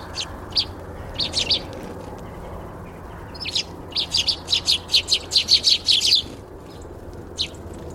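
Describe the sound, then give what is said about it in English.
Small birds chirp and tweet in quick, high-pitched bursts at garden bird feeders, recorded in stereo from a recorder placed in a tree's branches, building into a busy run of repeated notes before trailing off, over a soft steady outdoor hiss with no talking. “I placed it in the branches of that tree over there, next to where we have our bird feeders at home.”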